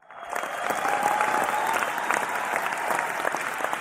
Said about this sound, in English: I'd like to thank our studio audience, of course. Give yourselves a round of applause.